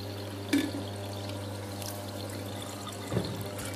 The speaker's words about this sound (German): Und was ich gemacht habe, man muss ja auch alles schön aufwischen. Ich habe einfach das Wasser in die Flasche gefüllt, dass der Tomatensaft auch alles gut rauskommt.